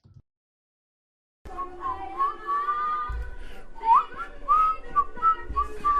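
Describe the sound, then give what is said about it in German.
Someone whistles a wavering melody into a microphone during a livestream after a brief silence, the tones bright and slightly harsh, with low thumps and breathy noise underneath. “Nicht nur bei ihm, an sich hört es sich nicht gut an, wenn man in so ein Mikrofon pfeift.”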